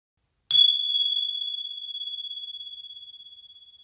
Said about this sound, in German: Wenn die Glocke wieder ertönt, ist die Meditation zu Ende.